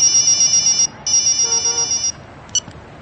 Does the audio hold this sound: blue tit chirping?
no